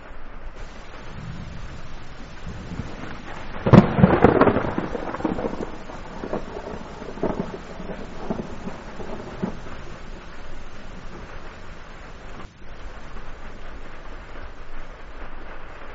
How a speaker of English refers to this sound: Rain on Tyburn. The rain is falling on Tyburn Hill.